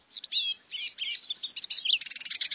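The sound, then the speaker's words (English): A canary sings a rapid, continuous stream of high chirps and warbling trills, ending in a fast repeated trill. The bird is clear, with no talking. “It's thanks to the action of a gene identified in intensely red pet birds known as red factor canaries.”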